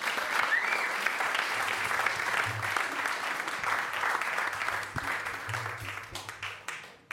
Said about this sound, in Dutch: Uw grote applaus voor niemand minder dan Mr. Ronald Snijders.